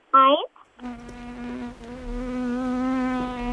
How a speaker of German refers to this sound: Da ist die lästige Fliege wieder.